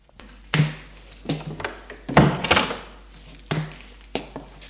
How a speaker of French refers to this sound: Il ferme la porte.